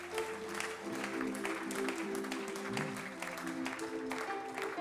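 audience clapping

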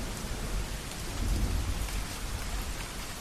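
rain falling outside

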